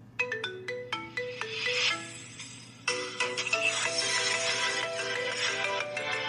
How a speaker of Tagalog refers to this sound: O di ba mga ka-daily, meron ka na pong latest and trending phone ringtone dyan sa cellphone mo.